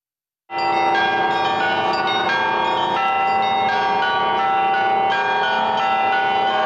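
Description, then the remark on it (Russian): Church bells of the Church on the Blood in Yekaterinburg ring out loudly and continuously, several bells overlapping in a dense, shimmering peal with periodic fresh strikes, as visitors from Siberia arrive carrying banners and icons; no voices are heard. “Колокольный звон, неся хоругви и иконы, идут гости из Сибири помолиться в одном из самых известных храмов Урала.”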